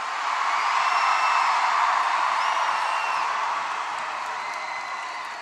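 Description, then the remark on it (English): A large crowd at a political campaign event roars with sustained cheering and applause, a dense wash of noise with occasional high whistles and whoops rising above it, staying loud throughout before easing slightly at the end. “This is a loud crowd.”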